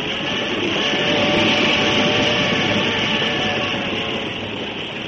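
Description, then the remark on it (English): A passenger train on the journey south from Brisbane toward Melbourne, approaching Albury, rumbles steadily along the rails, a dense, continuous roar with faint rhythmic clatter, fairly loud throughout, easing slightly toward the end. “And as the train approached Albury, the heart of the singer quickened with love and excitement.”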